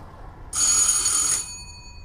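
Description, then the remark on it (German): A doorbell at a door in Neukölln rings once for about a second, a bright, steady, buzzing electric tone rich in high overtones, standing out over a quiet low background rumble, with no talking. “Ich klingel mal hier, nicht?”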